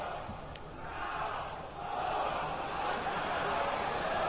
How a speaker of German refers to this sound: Raunen geht durch das Publikum.